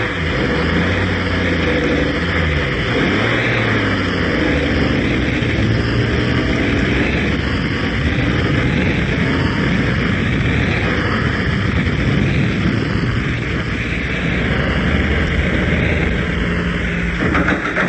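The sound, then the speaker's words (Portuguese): A car engine hums steadily and loudly for the whole stretch, with a broad rumbling drone that shifts slightly as the police car rolls forward through an open gate into the grounds of a large, lit-up house. No one speaks. “Olha, o portão está aberto. Pode entrar com o carro.”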